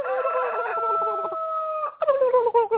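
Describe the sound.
A person imitates a turkey gobbling, holding a loud, warbling, throaty call before breaking into a quicker burst of rapid gobbles, with no other sounds around it.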